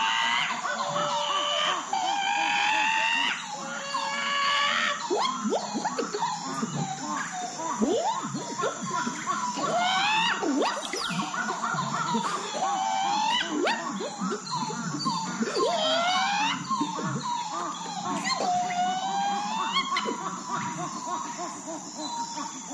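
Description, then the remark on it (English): Monkeys whoop and hoot in overlapping bursts in a field recording, their calls swooping up and down in pitch over a dense, steady outdoor ambience, some voices louder than others. “I was very happy to get this track because, you know, that the monkey is traditionally like, it's the trickster character.”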